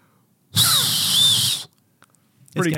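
A loud, airy blast of breath about a second long, a faint high whistle tone flickering through the hiss, a two-finger whistle with the fingers on the roof of the mouth not quite catching. A voice begins speaking just afterward.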